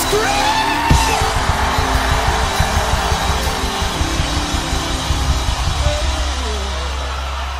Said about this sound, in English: Give you 5 seconds. Raise a shout in this place. 5, 4, 3, 2, 1.